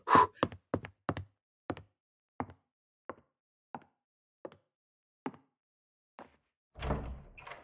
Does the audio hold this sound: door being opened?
yes